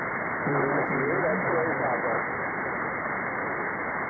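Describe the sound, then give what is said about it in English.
Several callers talk over one another in an amateur radio pileup through a hissy, narrow-band radio channel, then fade into steady static for the last couple of seconds. “There was a bit of a pile up.”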